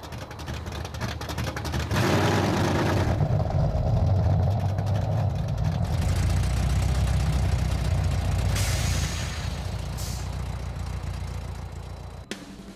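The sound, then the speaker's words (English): A 1990 Chevy Corvette with a Chevy 350 small block engine of 245 horsepower idles steadily with a deep, continuous low rumble, fairly loud, its tone shifting a little partway through before cutting off abruptly at the end. “Under the hood is a Chevy 350 small block engine with 245 horsepower”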